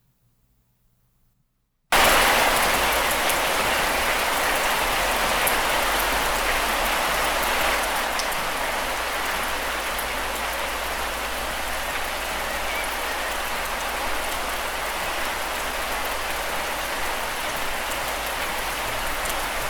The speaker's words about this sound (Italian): Questa era la pioggia che cadeva a casa il 26 di aprile e che ho registrato.